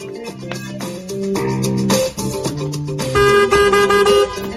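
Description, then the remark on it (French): Several car horns honk loudly and almost without a break, their blaring tones overlapping and shifting in pitch for several seconds, with no one speaking. “Oh, mais qu'est-ce que vous avez à klaxonner comme ça?”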